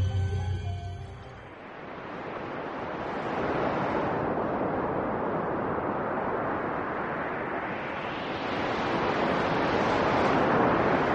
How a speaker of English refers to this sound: The wet fog stings their eyes. A wild wind hisses about the speeding ship. The wind and the fog. The wind. The wind.